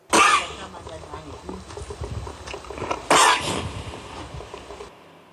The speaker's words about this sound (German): Und einen haben wir noch. Huster 11.